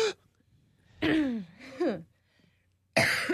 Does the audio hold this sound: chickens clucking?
no